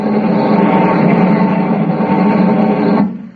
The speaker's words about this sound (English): Listen. You hear that? A buzzing sound. That's one of the new rocket bombs. Coming this way, too. Well, why no warning? It comes too fast. No time for it.